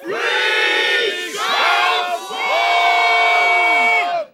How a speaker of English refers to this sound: Bearing down on him like a tornado came Bowly Pintips at the head of an army of otters, mice, moles, hedgehogs and squirrels. As they ran, a mighty cry arose from the battle host.